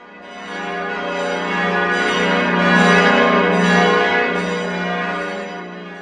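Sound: church bell ringing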